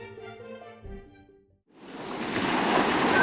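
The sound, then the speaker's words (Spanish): Soft tonal music fades to a brief hush, then a broad wash of surf swells up and builds steadily louder, sea waves rushing onto a shore. “O malo foi o día seguinte, cando partiu decidido a descubrir novas terras que conquistar, e cando apenas dera uns cantos pasos, deu de cara co mar.”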